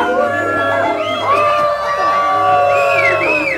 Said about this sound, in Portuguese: O pobre homem soprava, a flauta desafinava. E a criançada vaiava.